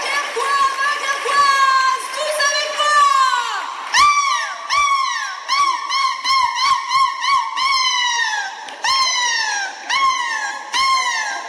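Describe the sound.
A person loudly imitates seagull cries in a seagull-cry contest at the Kursaal in Dunkirk, where comedian Jamel Debbouze challenged the local champion: long wailing calls give way to a rapid series of short, sharp squawks, continuous, with a faint crowd in the background.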